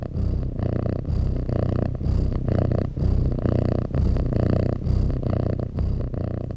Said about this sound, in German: Also verstaubt das Hörspiel, das 90 Minuten nur aus Katzenschnurren besteht